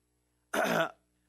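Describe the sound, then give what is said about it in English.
A single short throat clearing, a rough burst lasting under half a second, heard alone against silence. “I've been a little sick, so I'm trying not to cough or do anything like that, but it may happen.”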